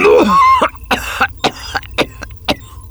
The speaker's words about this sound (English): More coughing, thicker now.